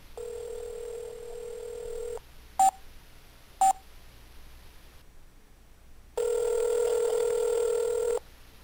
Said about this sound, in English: Yeah, I can hear that fine. Wow, what an amazing phone call that was. You didn't pick up? Apparently not.